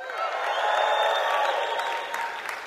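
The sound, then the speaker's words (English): A crowd of people clapping steadily, a dense, even wash of applause that holds strong for a few seconds before beginning to taper slightly at the end. “obviously from the applause, you guys stole my thunder, I should have had that come up after.”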